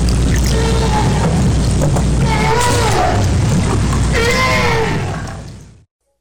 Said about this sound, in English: Okay, so this is a cool one. This is a right whale. Yeah.